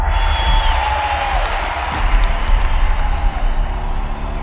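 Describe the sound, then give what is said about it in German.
A large crowd roars in sustained, thunderous cheering mixed with applause as a man steps out onto a balcony, a dense, continuous wall of noise that stays loud throughout. “Und die große Menschenmenge bricht in tosenden Jubel aus.”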